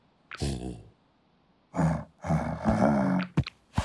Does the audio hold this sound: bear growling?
yes